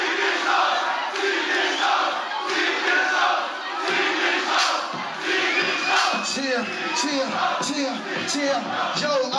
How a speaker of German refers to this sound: Dann fängt das Publikum an, ausziehen, ausziehen zu rufen. Hier ein kurzer Ausschnitt.